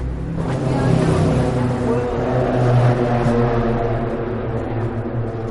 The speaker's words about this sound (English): Oh, wow. Big girder. This car is going over our head. There's the girder. Oh, that is huge I-beam. Huge I-beam girder. Yep. Yeah, it's like grating. Huh? It sounds really funny when you drive.